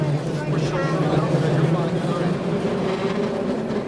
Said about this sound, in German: Die Straße windet sich bergauf und bergab über die Hügel. Langsam zieht sich der Wagen an dem Seil die steile Straße hoch. Rechts und links fließt dichter Verkehr. Es ist, als würden wir auf die Startposition einer Achterbahn gezogen.